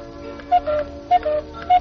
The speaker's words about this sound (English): This must be Switzerland, where they make such wonderful clocks. Hear them ticking?